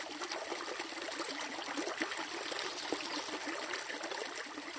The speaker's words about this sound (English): If you're heading out for some fishing along the state's many trout streams, this is the sound you'll likely hear.